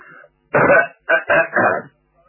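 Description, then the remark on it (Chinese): A voice imitates throat clearing and coughing: three rough, throaty bursts in quick succession, fairly loud, with a faint murmur before them and quiet between. “张作霖听完这话之后，把眼前的酒杯一推，咳嗽了两声。”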